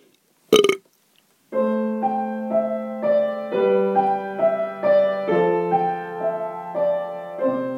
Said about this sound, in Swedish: Och om ni verkligen, verkligen tycker om det här, då drar ni upp ölen som ni har i bakfickan, knäcker den, häller i några klunkar fort som fan, och sen så rapar ni dem rakt upp i ansiktet.